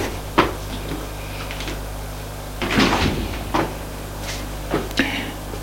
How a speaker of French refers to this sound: Elle va tout de même leur ouvrir la porte, c'est mieux pour ces pauvres gants.